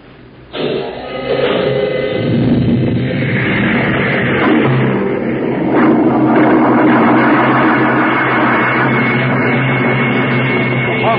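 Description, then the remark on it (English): A sudden, loud roar of a rocket ship's jets one and four firing for takeoff bursts in and holds steady as a dense, rumbling blast, swelling slightly midway, with no voices over it. “Fire one and four.”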